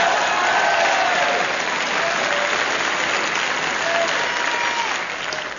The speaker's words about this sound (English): Signals applause on gramophone record. Ah! I've had my fill of the clapping. Puts record in knapsack for next week.